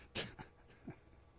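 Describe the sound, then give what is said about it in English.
A dog gives a few short, faint barks or huffs, spaced irregularly over a second or so, with no one talking. “Did you just hear a dog? I heard it again.”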